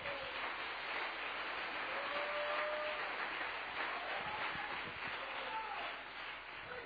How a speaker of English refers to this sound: Oh, come on, clap your hands together.